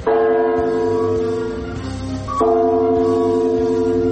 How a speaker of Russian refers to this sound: С колокола впервые за долгие годы сняли ограничители. Ровно в полдень все посетители заповедника услышали 12 колокольных ударов